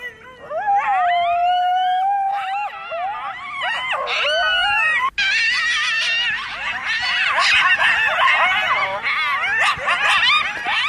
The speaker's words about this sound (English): And then you start hearing these noises. And you hear them right outside as well. These were like, these coyotes were right outside the hut.